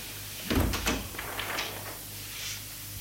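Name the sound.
door closing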